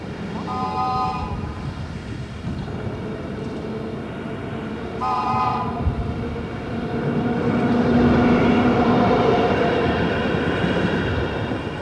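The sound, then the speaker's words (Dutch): A tram in Delft rumbles along steadily, and its shrill whistle sounds twice in short bursts a few seconds apart, standing out over the rolling rail noise that swells louder toward the end. “Als dank heb ik voor jou de fluit van de Delftse tram.”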